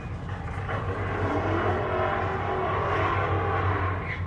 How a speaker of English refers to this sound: There was a rumble of a big engine going on.